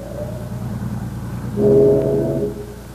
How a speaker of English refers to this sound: Did you hear that whistle? Yeah. That's no traffic whistle. Sounded like one on a steamer.